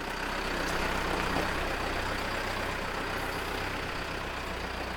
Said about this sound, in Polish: Odjechała koparka.